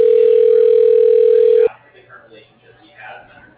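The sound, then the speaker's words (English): A loud, steady telephone dial tone, heard as a phone call is placed, holds a single pitch for about a second and a half, then cuts off abruptly, leaving faint background murmur. “So I'm gonna call him, I'm gonna get me on the phone with this guy.”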